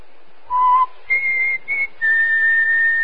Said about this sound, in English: I just whistled.